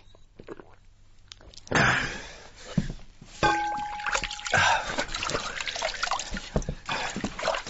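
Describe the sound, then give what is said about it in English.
Wet sloshing of water swished around the mouth, coming in several gurgling bursts with trickling and dripping between them, fairly loud and with no one talking. “Relieve the belly and the bladder. Swill out the mouth.”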